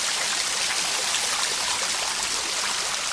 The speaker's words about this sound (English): And so there's a couple little, there's Laurel Creek, which is a trail at the nature preserve. And it has a little secret waterfall.